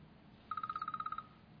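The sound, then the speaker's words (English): A timer goes off with a quick burst of about a dozen short, high-pitched electronic beeps in an even, rapid rhythm, lasting under a second over a faint low hum, with no talking. “That's my timer.”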